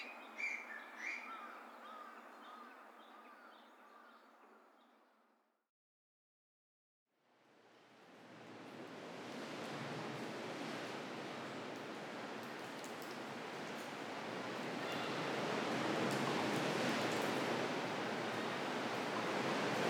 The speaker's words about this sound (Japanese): この日、飛島付近は50センチにも満たない穏やかな波でしたが、無人島付近は波が荒く、上陸するだけで一苦労しました。